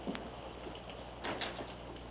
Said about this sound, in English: Open the front door, Frank, and let some air in here.